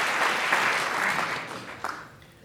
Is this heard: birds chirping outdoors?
no